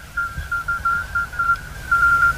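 Faint, high-pitched electronic beeps repeat in short pulses over a steady tone that lingers and echoes around the Rodenbach quarry in the evening, with a low rumbling noise underneath and no voices.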